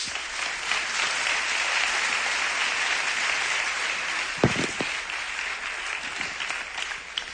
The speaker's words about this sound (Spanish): Un aplauso para él.